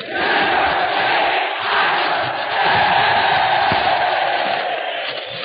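About 3,000 United States Marines, enlisted men and officers gathered at the Marine Barracks in Quantico, Virginia, for a special broadcast, roar and cheer in one continuous wall of voices, loud and steady throughout with slight swells, with no single speaker standing out.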